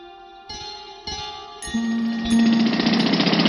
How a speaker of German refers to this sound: Seit etwa 1 Uhr heute Nacht rattern die Presslufthohre und bohren einen Graben quer durch die Ebertstraße hier am Brandenburger Tor. Der Graben ist etwa 1,5 Meter tief und 1,5 Meter breit.